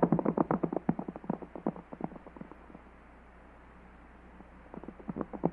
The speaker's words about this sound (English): That fella came out of the house. Hey, and he's getting on his horse. He's seen it. There he goes riding off.